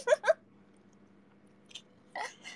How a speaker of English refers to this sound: I'm just eating dinner, so like, I was just like full silent and chew my food.